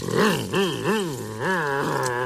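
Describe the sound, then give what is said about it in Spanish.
A man's voice imitates a revving car engine with a growly, buzzing hum that swoops up and down in pitch four times before settling into a steady drone, loud throughout. “No, no, no, abuelo. Los coches suenan así.”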